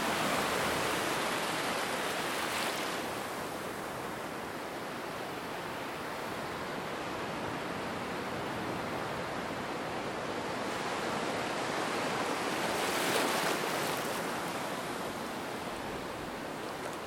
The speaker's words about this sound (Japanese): 実は僕ビーチのもう水の中に足をつけてます。ちょっと波の音聞いてください。